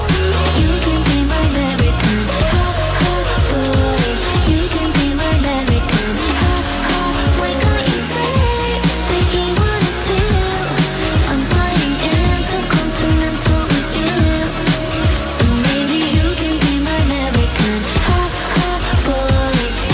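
A pop song plays loudly and continuously, a dense full mix with a steady driving beat, bass and layered melodic parts, with no talking over it.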